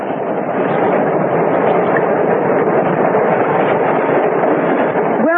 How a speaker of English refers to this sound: Listen, a train's coming. There it is. On its way to London. Shall we wave to it?